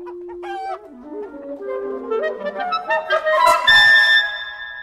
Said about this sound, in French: On peut aller vers un peu les dindons, puis on va sortir là-bas du parc.